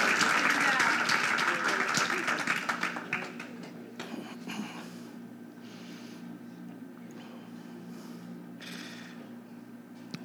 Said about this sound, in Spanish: Da un aplauso al Señor en este día.